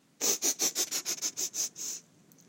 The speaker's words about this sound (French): Des serviteurs lui apportent ce que les cuisiniers ont préparé. Le roi respire l'odeur à chaque plat.